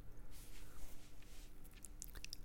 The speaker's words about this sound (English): And then you can hear the sound of water. Is it a waterfall, or perhaps a fountain, or perhaps there is both?